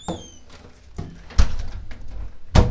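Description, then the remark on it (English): A door creaks with a brief high squeak, then bumps and thuds several times as someone tries and fails to push it shut against its frame, ending in a louder knock. No voices. “damn it, now I can't close the damn door.”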